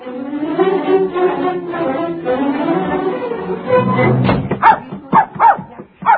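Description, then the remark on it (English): A puppy whines and yaps for a few seconds while a boy gets ready to feed it, then lets out a quick run of about five sharp, loud barks. “Now, come on, puppy dog.”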